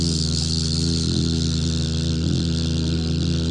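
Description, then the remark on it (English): A steady, low buzzing hum held continuously on an exhale from a human voice imitating a bee, done as a breathing exercise with hands cupped over the ears, fairly loud, with a faint breathy hiss above it and no words. “You can have a little contest with your friends, see how long you can exhale on the bee buzzing breath.”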